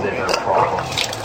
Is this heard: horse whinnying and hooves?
no